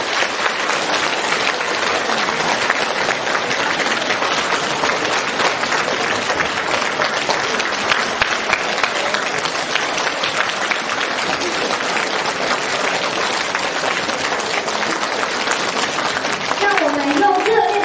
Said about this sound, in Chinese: 尊敬的卢军宏台长将为我们慈悲开示，让我们用最热烈的掌声恭喜我们尊敬的卢军宏台长。